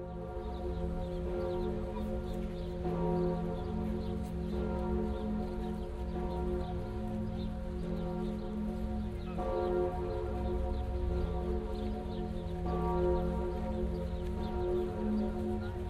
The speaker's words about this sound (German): Diese Glocke hat für ihre Tontiefe ein enormes Gewicht. Das heißt, die Wandung, die Glockenwandung